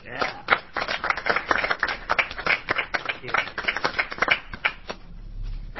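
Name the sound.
round of applause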